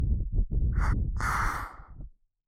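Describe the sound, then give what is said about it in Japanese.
Breathy exhales blown softly into the ear: a brief puff of air, then a longer, airy hiss of breath that fades out, with a low muffled rumble underneath. “こんな小さい女の子に吐息でお耳をくすぐられるの大好きなんですか？”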